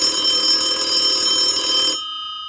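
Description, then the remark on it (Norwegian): A telephone ringing tone of a call to Bodø/Glimt sporting director Åsmund Bjørkan sounds steadily for a couple of seconds, an electronic buzzy tone with a thin noisy layer that drops away near the end, leaving the plain tone. No one speaks. “Ja, for da passer det greit at vi bare ringer til det som er, fungerer som sportsjef I Bodø/Glimt, Åsmund Bjørkan.”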